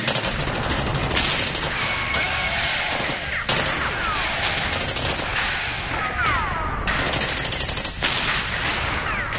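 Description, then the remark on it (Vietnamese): Sustained gunfire and shelling heard on reaching a trail, rattling without pause, dense bursts of automatic fire mixed with heavier booms, loud and chaotic throughout, with no voices. “Tiếp tục di chuyển vài giờ đồng hồ nữa, và khi tới một con đường mòn, chúng tôi lại nghe tiếng súng nổ và pháo kích.”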